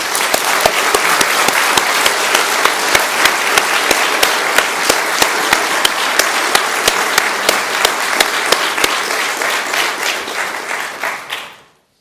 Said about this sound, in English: And I think at this time we ought to applaud and give the Lord a thank offering.